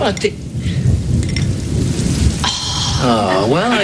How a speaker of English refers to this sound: I'll get a pail. This happens every time it rains.